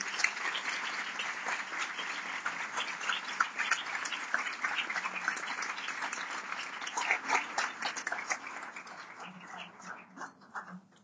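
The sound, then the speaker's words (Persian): A group at a meeting applauds themselves steadily for about ten seconds, dense overlapping claps forming a loud wash that thins toward the end, with some voices mixed in. “خودتون رو تشویق کنید”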